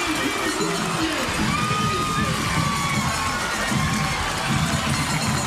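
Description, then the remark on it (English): A large crowd at a football game roars and cheers continuously as Union, the Redskins, win 36-30 after an incomplete final pass into the end zone, with shouts and whoops rising above a dense, steady wall of voices that stays loud throughout. “And the Redskins celebrate like a state title.”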